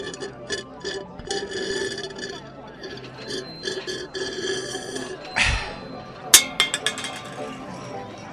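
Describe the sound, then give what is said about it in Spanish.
A metal orange soda can is tossed onto the ground by a boy instead of into the trash. It lands with a sharp clank followed by a few quick rattling bounces, heard over a busy background of voices and street noise. “En vez de tirar la lata en la basura.”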